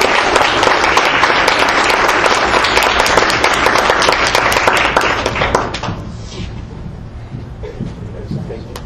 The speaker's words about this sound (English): Let's give these champions a round of applause, please.